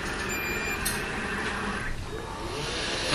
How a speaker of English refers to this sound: I'm going to hit clean and listen to the Roomba as it comes off its docking station. Make sure it doesn't go under the Christmas tree. Okay, I won't. It makes a little beeping tone. Now it's backing up.